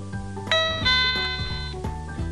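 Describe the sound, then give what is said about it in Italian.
A short electronic chime plays a few bright, ringing tones in quick succession, a confirmation jingle from a digital talking bathroom scale for blind users, switched on by a simple hand clap from up to a couple of metres away, with no voices. “Si posa la bilancia sul pavimento o sul piano di un mobile, la si mette in funzione con un semplice battito di mani anche ad un paio di metri di distanza. Ne darà subito conferma il seguente suono.”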